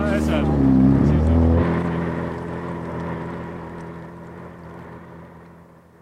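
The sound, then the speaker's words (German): An elegant motorboat towing a sailing ship, its engine droning with a deep, steady hum, loud at first and then gradually fading as it moves away. Faint water noise may sit beneath the rumble. “bis der junge Mann mit dem eleganten Motorboot das Segelschiff anschleppte”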